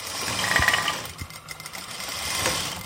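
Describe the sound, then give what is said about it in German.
A sewing machine in a large old-building apartment in Budapest runs steadily, stitching the fabric of an old Roma costume with bright flower motifs on a yellow ground; rapid mechanical whirring with a few brief pauses and slight speed changes, no voices over it. “sitzt in einer großen Altbauwohnung in Budapest an einer ihrer Nähmaschinen. Sie bearbeitet den Stoff einer alten Roma-Tracht, grellbunte Blumenmotive auf gelbem Grund.”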